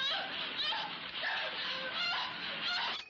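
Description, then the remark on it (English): Busy, continuous chicken chatter fills the whole stretch, steady, with overlapping squawky calls and clucks from a chicken or a small flock. “That's a chicken, by the way.”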